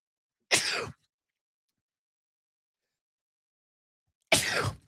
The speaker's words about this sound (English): Excuse me, sneezing. We're recording live. Can't help that. Pardon me.